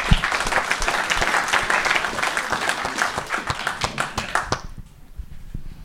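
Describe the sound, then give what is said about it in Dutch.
A crowd of people applauds a committee steadily, dense overlapping claps sustained for several seconds before fading out quickly near the end. “En ja, ik denk nogmaals gewoon een groot applaus daarvoor.”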